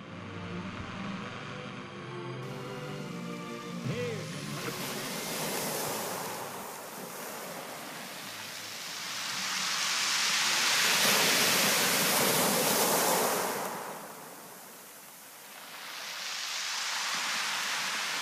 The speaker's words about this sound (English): Far away in a cottage bed in a little B&B by the ocean. FM was getting herself settled into her seaside bed, singing quietly to herself. And the crashing of the waves formed the rhythm.